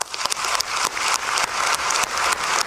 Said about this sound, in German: Per Applaus, ne? Per Akklamationswahl ist Gianni Infantino im Amt des FIFA-Präsidenten heute bestätigt oder wiedergewählt worden.